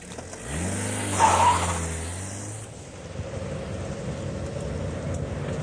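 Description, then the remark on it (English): A car engine revs hard, its pitch climbing as it speeds up, then settles into a steady loud rumble of driving fast, with no voices. It is Shifty's car being driven fast. “Here, Shifty, won't his car go any faster? I can't drive this thing, Gums.”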